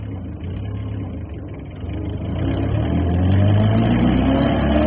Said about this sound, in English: Over the roar of that 40-horsepower engine, I fancied that the wind brought me the sound of angry voices. I drove that car for all she was worth across the crisp roads on that shining May morning,